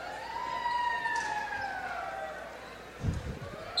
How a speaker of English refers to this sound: Apparently it's ambulance night. You know, I'll give them a dollar if they stop that.